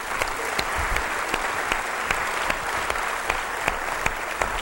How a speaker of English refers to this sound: Let's give the class a round of applause.